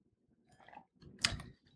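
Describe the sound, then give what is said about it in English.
A quiet sip from a drink, taken as a toast to International Blues Music Day, a soft slurp followed by a louder, brief wet slurp, with no talking. “I'm drinking just little sips, and I'm trying to pace myself here.”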